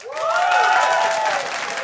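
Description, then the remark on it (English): A crowd applauds and cheers in a brief, steady burst of clapping, with whoops and shouts rising above it. The sound is loud and full, with no talking. “A round of applause for no, stay away.”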